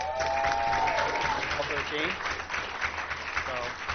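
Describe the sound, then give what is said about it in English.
An audience claps steadily for the speaker's assistant in a dense wash of applause lasting several seconds, with a few voices and whoops rising through the clapping. “So we give her a round of applause as well.”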